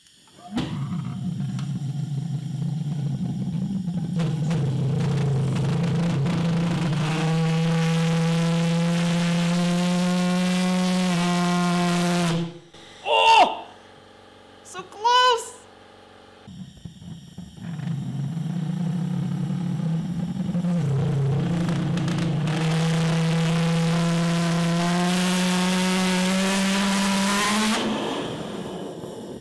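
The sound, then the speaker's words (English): An engine being started with propane gas, compressed air and a lighter roars loudly with a climbing whine, cuts out briefly with a few sputtering bursts, then fires back up into a steady, rising roar. “I don't think I ever started an engine like this with butane gas.”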